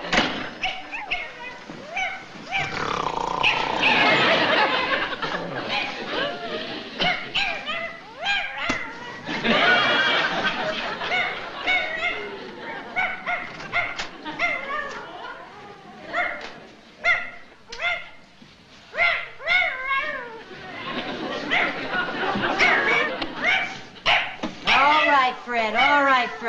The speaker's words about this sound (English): The whole building's awake. I've had 6 phone calls complaining about that hound of yours.